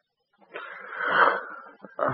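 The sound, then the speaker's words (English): A wounded man's raspy wheezing breath drawn out for over a second, followed by a shorter strained gasp, like someone struggling to breathe. “He is breathing.”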